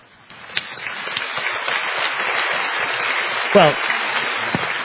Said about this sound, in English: Well, it does get you applause.